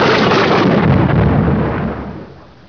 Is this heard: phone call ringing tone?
no